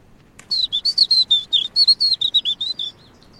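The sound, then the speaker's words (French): A small songbird sings from a small tree about 3-4 metres high, facing the wind: a quick, steady run of about fifteen high, clear chirping notes lasting a few seconds, against a quiet outdoor background with no voices. “Et là, vous voyez, il est en train de chanter, face au vent.”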